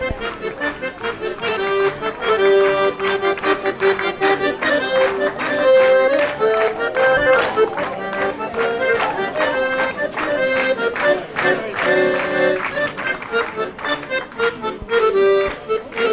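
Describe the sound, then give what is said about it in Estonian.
An enthusiastic audience claps along in a steady rhythm to loud live music at a stage performance with a choir on the stairs and dancers on and beside the stage, the sharp hand claps blending into a dense band performance with no one speaking over it. “Tantsitakse ka siin lava ääres, koor on treppidel, tantsijad siin ees laval ja publik on vaimustatud, plaksutab kaasa.”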